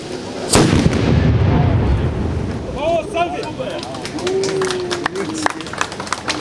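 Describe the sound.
A single loud shot from a reconstructed cannon, made in the ironworks tradition of cannons once produced in Ozimek, booms out early, its deep rumble rolling away, followed by outdoor crowd noise and scattered voices of people talking in the background.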